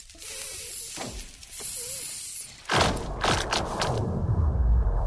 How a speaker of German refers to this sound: Und da haben wir dann das Unterwassermikrofon reingehalten und von dort aus haben wir dann diese Aufnahmen gemacht. Es knackst, kracht und donnert, das Eis. Und macht? Klirr, tisch, bumm.